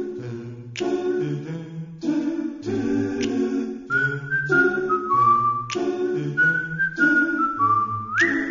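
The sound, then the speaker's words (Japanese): A clear whistled melody glides over a steady live doo-wop style vocal chorus and a bouncing bass line, with a loose, relaxed rhythm throughout and no speech. “ドゥーアップ風の生コーラスと口笛がシンプルだけど、なんとも味わいがありますね。”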